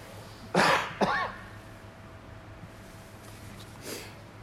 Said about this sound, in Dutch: Ik moet alweer even kuchen hoor.